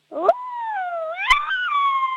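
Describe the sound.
A person imitates a menacing wolf with a long, sustained howl. It starts with a rough growl, then rises and holds a wavering pitch with a sharp catch in the middle, fairly loud.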